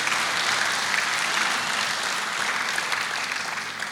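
Sustained audience applause, a dense wash of many hands clapping at a steady, fairly loud level throughout, with no voices rising above it.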